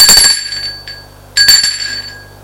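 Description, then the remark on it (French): An apartment doorbell rings twice, each bright metallic ding sustaining a high ringing tone that slowly fades, with no one talking. “Mathieu sonne à l'appartement.”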